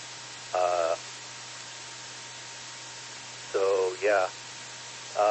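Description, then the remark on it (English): Steady hiss of radio static on an SDR receiver, caused by interference from a source inside the house, with a low hum beneath it, broken by short warbling, garbled bursts of distorted voice-like tones drifting in and out of the noise. “Anyway, yeah, it's too bad that there's that interference for this SDR, but what it comes from is right inside their house, you know, like some sort of power supply or something.”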